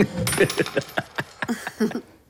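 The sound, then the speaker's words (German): A penny is tossed across a table by a man, landing with a bright clatter of rapid metallic clinks as it bounces and rattles to rest. “man hört es hier, so eine Münze, so wirklich so ein Penny, den schmeißt dieser Van Buren über den Tisch”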